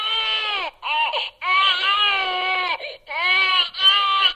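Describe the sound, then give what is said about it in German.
A computer-controlled baby simulator doll, used in a project in Ulm, Germany, to show teenagers what being a parent means, cries loudly in a run of wailing bursts with brief gasping breaks, some drawn out, with no other sounds or voices. “bist du jetzt immun gegen Babygeschrei? Von wegen, hör mal.”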